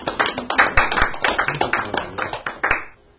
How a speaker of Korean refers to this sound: 예, 박수 쳐주세요.